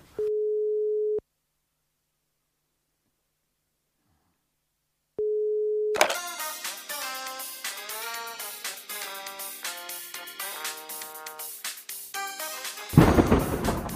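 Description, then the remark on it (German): A steady, low-pitched telephone dial tone hums for about a second, falls silent for several seconds, and sounds again briefly before a loud, dense burst of busy noise takes over. “Hör mal leise. Ich habe gleich ein Amt.”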